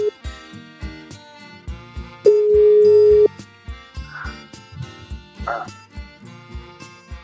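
A single steady telephone ringing tone sounds for about a second as a call goes through, set against a busy background of rhythmic music.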